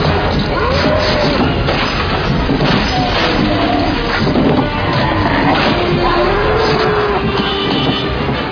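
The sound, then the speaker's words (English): A car is smashed and wrecked in a loud, continuous stretch of crunching, banging impacts, with grinding metal and shrill screeching tones sliding up and down through the din. “No way that just happened. My car is completely destroyed.”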